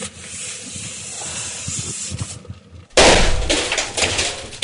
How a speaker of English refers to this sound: There we go. Big bang. CO2 for you.